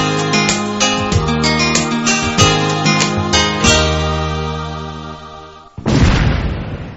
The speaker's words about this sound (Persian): صدایی را که شنیدین صدای انفجار یک ماین بود. صدای دشمن ناشناس و همیشه در کمین که از سالها بیسو سبب کشته، زخمی و یا هم معیوب شدن هزارها تن شده.